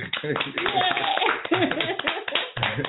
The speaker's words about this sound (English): Can we give a clap?